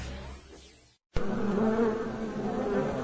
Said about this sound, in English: Wondering what that buzzing is? Well, honeybees are used to pollinate over 100 crops grown commercially in North America.